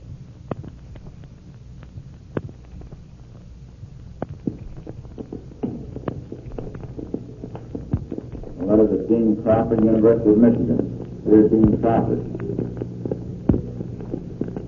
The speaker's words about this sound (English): Now, if you will listen closely, you will hear, over the dictation of the man who made the recording, the sounds of the plane and the crash at the end.